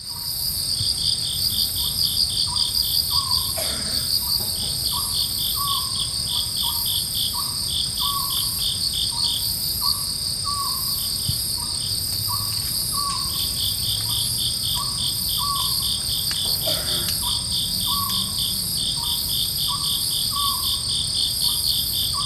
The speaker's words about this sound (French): Vous allez voir que c'est un enregistrement qui n'est pas extraordinaire, mais on entend un hibou petit duc, et vous êtes dans un endroit où personne n'est, finalement.